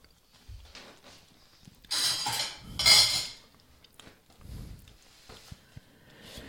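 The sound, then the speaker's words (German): Cutlery clinks and clatters, with a loud burst of metallic scraping and ringing in the middle, then a few scattered, quieter taps and knocks. No one speaks. “Das ist hier so eine Bestecksache am Laufen.”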